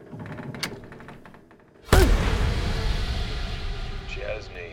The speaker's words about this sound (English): Savannah whacks his face with her bow.